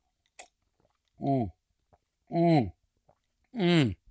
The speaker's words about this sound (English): Taking a big sip of juice.